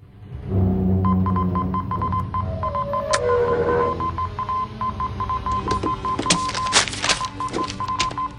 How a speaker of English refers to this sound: In the stricken sub, the crew sit listlessly at the stations. They look up as a Morse code message arrives.